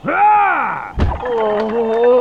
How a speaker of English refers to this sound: Bolin pushed through the hanging fabric of the door.